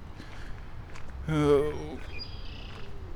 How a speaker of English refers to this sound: Oh. I hear red-winged blackbirds.